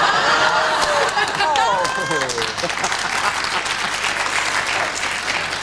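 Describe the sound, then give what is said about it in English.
A studio audience bursts into sustained applause, dense steady clapping mixed with laughter and a few voices for the first couple of seconds, then continuing as a loud, even wash of clapping. “If they insult me, you not only laugh, you also clap.”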